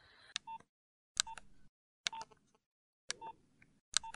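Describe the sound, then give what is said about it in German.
Four or five telephone keypad presses, each a short DTMF tone beep with a click, spaced about a second apart as a PIN code is keyed in to confirm a security alarm call, fairly clear with quiet gaps between. “Bestätigen Sie jetzt bitte mit Ihrem PIN-Code.”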